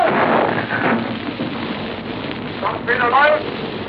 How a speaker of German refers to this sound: Das ist der große Augenblick. Zischend hat der Aal das Rohr verlassen. Torpedo läuft, kommt die Meldung aus dem Boot.